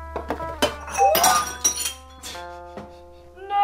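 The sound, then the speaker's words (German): Close-up crash of glass or crockery breaking: a burst of sharp shattering impacts with bright ringing tones, then scattered pieces clinking and settling over a few seconds. “Scherben bringen Glück.”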